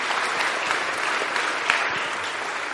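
Steady applause from an audience for a participant, many hands clapping together in a dense, continuous wash that holds at an even loudness throughout, with no voices standing out.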